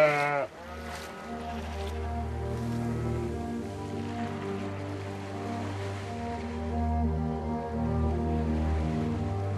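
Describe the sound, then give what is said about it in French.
Sheep bleat continuously up close, several overlapping voices forming a dense, sustained chorus of wavering cries, with a soft wash of wind or surf underneath. Heard while walking through the meanders of the Molières, on low tidal ground in a hollow at sheep height. “Ah, et nous arrivons carrément au cul des moutons.”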